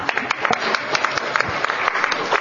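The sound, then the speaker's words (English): A crowd applauds steadily as a panelist from ACB of Maryland is welcomed to speak, many hands clapping in a dense, continuous patter with scattered louder claps, and faint cheering from the back of the room mixed in under the clapping. “I appreciate the cheering in the back of the room.”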